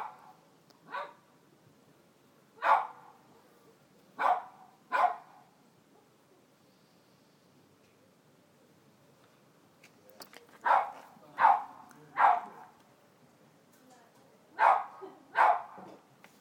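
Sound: dog barking outside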